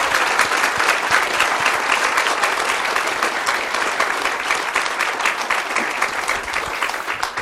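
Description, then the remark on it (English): A crowd at a temple in Budapest claps in a sustained round of applause for people's service there, a dense, steady wash of many hands at an even loudness for the full stretch, with no voices standing out. “Okay, again a round of applause for their wonderful service here at our temple in Budapest.”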